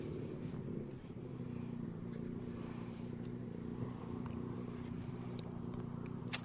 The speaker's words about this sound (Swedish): Nu kommer nästa bil in här mot mig. Kan vara Morgan Larsson, nummer 55. En BMW.